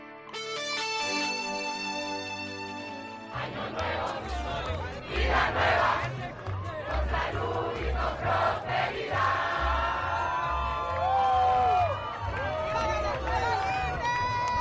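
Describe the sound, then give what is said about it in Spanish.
Thousands of Venezuelans cheer and celebrate the fall of Nicolás Maduro in the Puerta del Sol, Madrid: a loud, continuous roar of many voices with rising shouts and chant-like yells, after a short musical tone at the start. “Bueno, pues esto era el sonido ayer en Madrid, en la Puerta del Sol, donde miles de venezolanos se dieron cita para celebrar la caída de Nicolás Maduro.”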